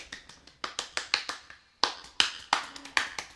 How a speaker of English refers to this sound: Look at. Let me hear it. Look at even faster clapping. Okay. Yeah, give it to me. Ow, that hurts my hands though.